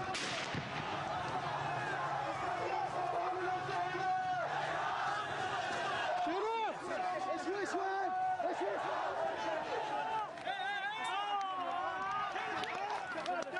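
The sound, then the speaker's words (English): A dense crowd of protesters shouting slogans loudly together against the Saudi regime and its rulers in Riyadh, with raised cries rising out of the steady roar of many people yelling at once. “The protesters vented their anger at the Saudi regime by shouting slogans against the rulers in Riyadh, and the regime forces responded with live bullets.”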